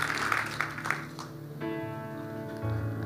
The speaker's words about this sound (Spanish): Dale ese aplauso fuerte y ponte de pie, por favor. Póngase de pie.